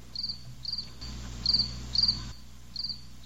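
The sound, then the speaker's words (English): Crickets chirp in short, evenly spaced bursts about twice a second, a steady high trill over a faint low hum, with no voices present. “here's your crickets.”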